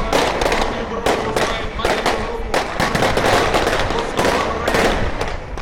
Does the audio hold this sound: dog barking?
no